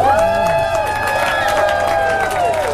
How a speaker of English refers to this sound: Shaking hands with cheering fans, Russell squeezed his 6'9" frame out of a golf cart.